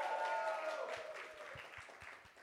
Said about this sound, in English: He's amazing. Can we just give him a round of applause, please?